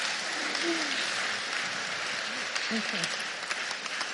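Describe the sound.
Sustained applause from an audience at a church gathering, honouring people as they come forward, fills the space: a dense, steady wash of clapping hands with a few faint voices mixed in throughout.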